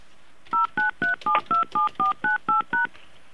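A rapid series of ten telephone keypad tones, each a short dual-pitched beep, pressed in an even rhythm with brief gaps, clear with no voices.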